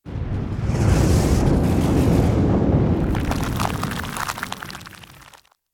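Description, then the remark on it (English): A loud, sustained rumble of thunder with heavy low-end roar and crackling bursts, rolling for several seconds before cutting off abruptly; no voices. “With the sound of thunder, the floor closed with the three avaricious men inside.”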